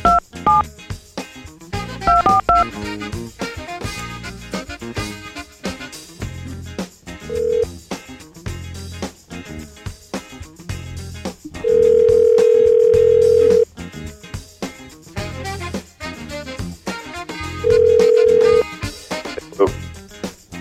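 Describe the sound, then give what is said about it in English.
A quick run of touch-tone dialing beeps as a phone call is placed to Hulk Hogan, followed by two long, steady phone ring tones, with a busy musical backing playing underneath throughout. “Hulk Hogan is on the phone.”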